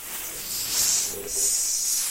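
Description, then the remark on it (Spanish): A voice imitates a snake's hiss, illustrating the letter S, with two sustained, breathy hissing bursts, fairly loud, with a brief dip between them and no speech. “Como si está la serpiente, ¿verdad?”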